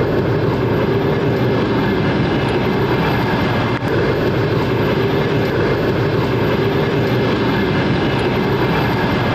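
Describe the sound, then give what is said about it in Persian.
A loud, steady rumble of a passenger train arriving at Tursunzoda railway station, 60 km from Dushanbe, Tajikistan, fills the whole recording, a dense low roar with faint rattling and a brief clank near the middle, with no talking. “این همون قطاری است که حالا در به ایستگاه تورسونزاده آمد و ما حالا در ایستگاه راه آهنی تورسونزاده 60 کیلومتری شهر دوشنبه قرار داریم”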